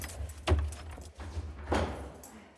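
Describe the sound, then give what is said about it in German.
Keys jangle and clatter as a man unlocks the heavy door of a lighthouse, with two sharper metallic bursts about a second apart over a low, steady background rumble. “Aber nach einiger Überzeugungsarbeit meines polnischen Begleiters schließt er die schwere Tür des Leuchtturms auf.”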